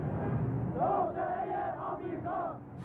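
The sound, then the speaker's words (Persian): A protest crowd marching from the university toward Azadi Square chants a slogan in unison, "oppression is oppression, there is no freedom", rising and falling voices in a steady rhythmic cadence over a dense, roaring murmur of many people. “فریاد میزنن که ما اختناق اختناق است، آزادی نیست.”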